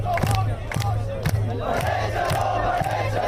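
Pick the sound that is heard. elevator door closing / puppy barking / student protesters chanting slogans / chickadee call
student protesters chanting slogans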